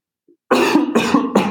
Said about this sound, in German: Ich muss mal eben husten.